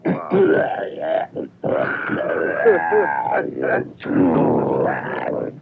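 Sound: throat clearing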